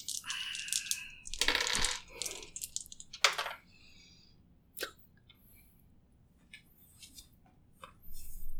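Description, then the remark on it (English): Dice for a strength roll in a Delta Green tabletop roleplaying game clatter and rattle in a couple of dense bursts, followed by a few scattered, sharp clicks as they settle, with quiet in between and no talking. “I'm not touching your damn cursed dice.”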